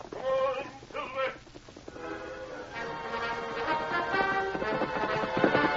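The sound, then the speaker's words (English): A horse whinnies twice in quick, shrill bursts, then hoofbeats pound on at a steady gallop as Silver, the Lone Ranger's horse, chases a black horse, beneath a dense, swelling wash of sound that grows louder toward the end. “Now's your chance to show that black horse how to run.”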